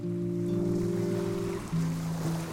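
Water laps softly and continuously against white yachts, sailing ships and excursion steamers moored at the mole in a harbour in Tasmania, Australia, in the early morning stillness; a steady wash with a low, droning engine hum underneath, even in level, with no voices.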